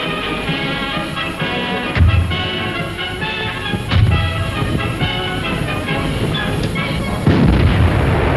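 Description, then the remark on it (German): Artillery guns fire on attacking English tanks at Agaila in heavy, deep booms: two about two seconds apart, then a third after a longer pause, all over a steady rumbling, noisy background. “Feuer auf angreifende englische Panzer vor Agaila.”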